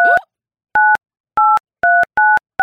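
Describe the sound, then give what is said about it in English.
Phone keypad dialing tones as a number is dialed to call a contest winner: about six short, loud two-tone beeps pressed at an uneven pace, each a clean electronic chirp separated by brief silences, with no voices present. “So I'm about to call this number here now.”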